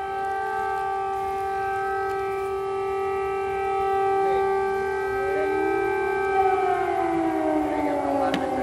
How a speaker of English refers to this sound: There you are. That's an air raid. An air raid siren. Several of them going off here in the center of the Ukrainian capital.